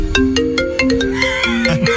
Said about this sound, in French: Il a un appel.